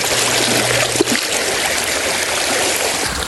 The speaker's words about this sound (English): I'm washing the rock because some of the things cling to them.